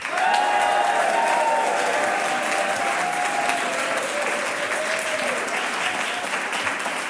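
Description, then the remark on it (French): An audience in the village of Ovifa, Belgium, applauds to welcome the players of the game show Le jeu des 1000 euros: a steady, dense burst of applause holds at an even loudness for about seven seconds, with a faint tonal hum beneath the clapping and no one speaking. “ça fait plaisir d'être applaudie et accueillie comme ça.”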